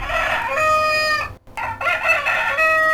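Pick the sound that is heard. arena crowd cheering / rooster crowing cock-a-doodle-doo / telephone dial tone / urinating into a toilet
rooster crowing cock-a-doodle-doo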